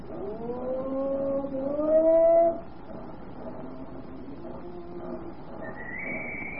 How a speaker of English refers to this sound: Look, that policeman's blowing his whistle and motioning to you to wait. So he is. What for, I wonder? He's pointing to that man running this way.